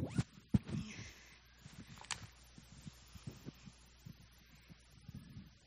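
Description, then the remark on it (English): A zipper is pulled closed in one quick rasp, surrounded by soft handling thumps and fabric rustling. No one speaks. “Let me zip that up.”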